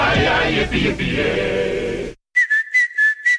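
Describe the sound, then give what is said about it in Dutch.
A dense, noisy burst of sound cuts off abruptly, and after a brief pause a person whistles a short tune of four bright, clipped notes, fairly loud. “Niet alleen de vogels fluiten in april, ook Toyota-rijders.”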